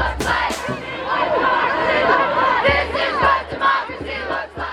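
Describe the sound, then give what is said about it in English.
A huge crowd of hundreds of thousands at the 2017 National Women's March on the National Mall in Washington, D.C., with pink hats and protest signs, cheers and shouts continuously, many voices overlapping in a loud, dense roar with rising whoops and yells, plus a few sharp bursts near the start. “A sea of pink hats and vibrant protest signs flooded the National Mall in what became one of the largest single-day marches in U.S. history.”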